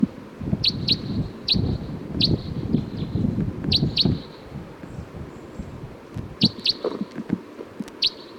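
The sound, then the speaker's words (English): A wild bird calls with short, high chirps, often in quick pairs, repeating irregularly throughout over a low rustling, rumbling background. “I think there's a wild bird here.”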